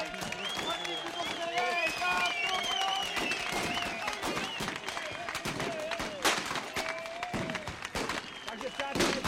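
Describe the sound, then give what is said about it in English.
A large stadium crowd in Mnichek, Czech Republic, roars and cheers continuously as Pony Express riders gallop their horses out of the stadium, with scattered clapping, shouts and whistles rising over a dense wash of voices, loud throughout. “The public and the guns are delirious.”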